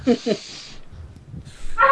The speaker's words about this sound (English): And you hear a dog.